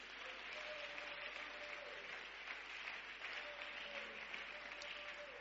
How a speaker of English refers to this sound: And that's why you need to give grace the loudest clap offering of praise.